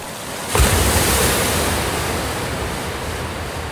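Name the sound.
ocean waves breaking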